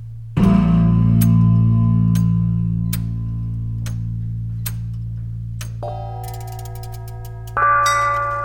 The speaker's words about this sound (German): Glocke. Kupfer. Glocke tönte.